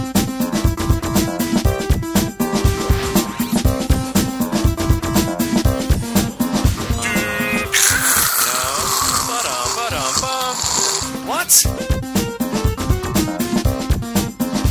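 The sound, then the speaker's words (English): A dial-up modem connection sound: rhythmic warbling tones, then a loud burst of harsh hissing static with sweeping, whistling chirps that cuts off abruptly before the beeping resumes. No one speaks. “That was the modem sound.”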